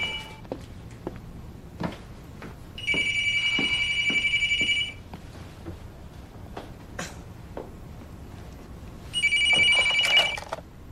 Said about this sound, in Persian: مامانی تلفن. از بالا جواب میدم.